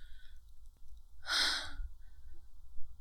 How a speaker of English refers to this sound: I'm very wet and flushed, and I can't stop breathing so rapidly. Am I sick?